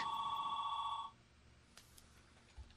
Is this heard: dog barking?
no